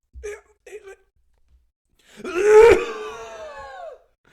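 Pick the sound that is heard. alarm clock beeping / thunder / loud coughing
loud coughing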